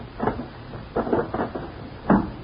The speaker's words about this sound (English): Put that gun back in the drawer and close it.